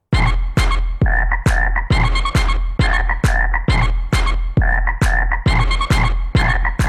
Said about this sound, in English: And yes, Froghouse is an interesting experimental genre of electronic music.